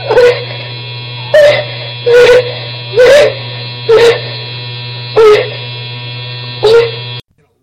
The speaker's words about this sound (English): What the hell else could it be? Apparently a bee. I don't fucking know. It's a vibrator.